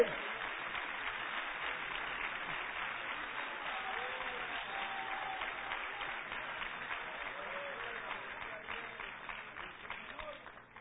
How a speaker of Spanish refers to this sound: ¡A su nombre! Denle un aplauso al Rey en esta noche.